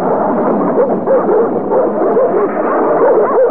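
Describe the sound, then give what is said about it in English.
A pack of dogs barks and yips at once, a loud, steady chorus of overlapping woofs and higher whines with no pause, running throughout and with no one talking. “Well, this is where I started picking up the dogs after I dropped the professor.”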